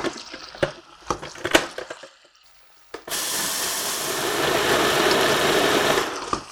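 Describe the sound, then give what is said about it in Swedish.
A few sharp clicks and clatters, then a blender roars to life, grinding about 3 deciliters of sunflower seeds for a spread with a loud, steady, gritty whir for about three seconds before cutting off. “Nu så ska vi också, medan det där bryner, så ska vi mixa solrosfröna.”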